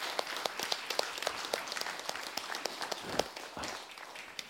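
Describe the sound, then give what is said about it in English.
An audience at a church service breaks into steady applause to encourage a team, many hands clapping in a dense, even patter with a few sharper claps standing out, sustained throughout at moderate loudness. “You may want to encourage them with a round of applause for the glory of Christ.”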